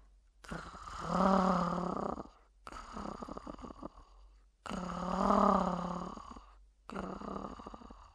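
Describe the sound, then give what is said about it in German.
A human voice growls slowly and rhythmically in imitation of a dog, with two long rumbling growls, each followed by a rougher, breathier one, fairly loud with no talking. “Sie versuchte möglichst langsam und rhythmisch zu knurren.”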